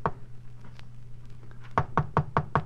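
Five quick, evenly spaced, sharp knocks on the door of apartment 1B come after a stretch of quiet with a faint low hum. No one speaks.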